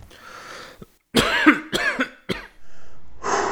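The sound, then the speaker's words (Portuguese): Three loud, forceful, raspy coughs in quick succession from a person squatting and coughing on command, after a brief quiet start and followed by a steady hiss of background noise. “Agora tosse! Mais alto.”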